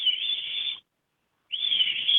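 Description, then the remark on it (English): A caller whistles an imitation of a bird call: two sustained, steady high whistled notes separated by a short pause, clear, with no talking. “I can make the sound if you'd like.”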